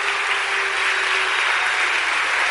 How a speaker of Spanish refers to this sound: Dele ese aplauso fuerte al Señor.